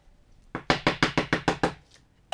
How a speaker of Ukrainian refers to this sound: Я ще раз постукаю.